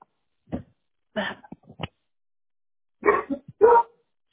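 A dog barks in two short bursts of several sharp barks, separated by a brief pause, with no talking over them, as someone arrives.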